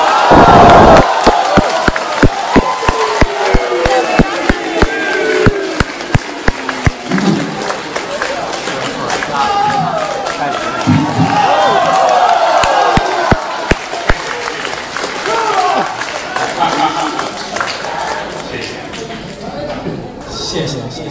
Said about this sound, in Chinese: 谢谢您各位的掌声鼓励。